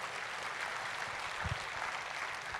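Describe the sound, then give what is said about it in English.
An audience applauds steadily, a dense, even wash of many hands clapping at once, fairly loud and sustained for the whole stretch, with a few low thumps mixed in. “We can clap for that.”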